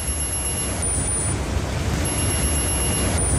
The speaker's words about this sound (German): Und es funktioniert so, dass Bewegungsmuster oder auch plötzliche Bewegungslosigkeit als mögliche Gefahr erkannt wird und per Alarmsignal auf eine Smartwatch an den Mitarbeiter kommuniziert wird. Und dieser Alarm klingt dann so.